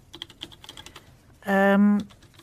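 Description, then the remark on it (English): Quick, irregular tapping on a faulty laptop keyboard that doesn't work, fairly soft, followed by a loud, steady electronic beep lasting about half a second. “This keyboard doesn't work at all.”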